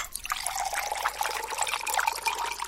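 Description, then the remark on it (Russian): Drinking water is poured steadily into a cup for a couple of seconds, clear, with a splashing gurgle whose pitch climbs slightly as the cup fills. No one speaks. “Но сперва водички. Ух, очень уж там жарко было. И мне, и мне, и мне. Уже наливаю.”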